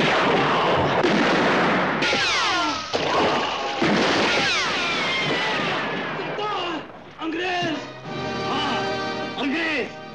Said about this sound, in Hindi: अगर सेनापति आजाद नहीं किया गया तो लड़ाई होगी, और अगर लड़ाई होगी तो गोलियां चलेंगी।